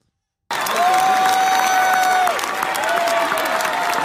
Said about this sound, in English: Alrighty, it's just clapping. And even the way they clap at church is weird.